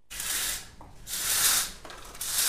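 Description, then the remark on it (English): Window shades in a 19th-floor office in Dubai are drawn open in three long, breathy rasping strokes, each a bright scraping swish with brief pauses between, steady and fairly loud with no voices. “opens the shades in his 19th floor office.”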